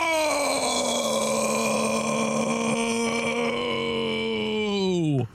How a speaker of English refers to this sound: Sorry, that started as a yell and then it became a burp.